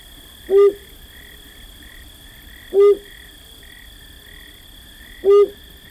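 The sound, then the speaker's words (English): A male flammulated owl in a mountain pine forest in the west, at late-summer nightfall, gives three low, soft single hoots spaced evenly about two and a half seconds apart, over a steady background of night insects trilling. “Just as late summer darkness fully envelops a mountain pine forest in the west, a male flammulated owl begins to hoot.”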